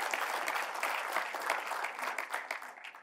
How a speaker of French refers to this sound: Est-ce qu'on peut applaudir ce Dieu qui est digne de confiance?